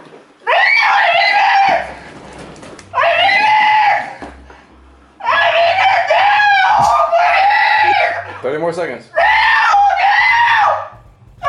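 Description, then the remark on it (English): A woman screams loudly and repeatedly, four long sustained bursts separated by short gasping pauses, intense, with no other talk. “Like, no matter how much I scream, 40 more seconds. Do not let me go.”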